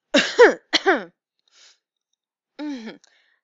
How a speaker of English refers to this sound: Sorry. Just keep needing to clear my throat.